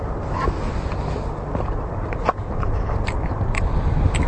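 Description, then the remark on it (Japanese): Someone eating German cup noodles on the bank of the Shinano River on a clear autumn day, with soft, irregular chewing and slurping clicks over a steady low rumble of background noise; no one speaks. “うん、秋晴れの信濃川の土手でドイツのカップヌードルを食べている、これ世界初の報告を今させていただいております。”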